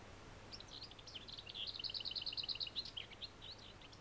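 lesser whitethroat song

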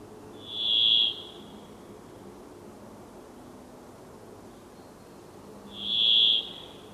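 brambling song

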